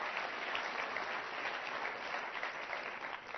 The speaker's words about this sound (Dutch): Geef daar eens even een applaus voor aan de Heer Jezus.